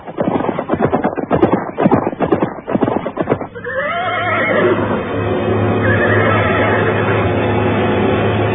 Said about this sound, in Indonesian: ketika mendadak terdengar derap dua ekor kuda.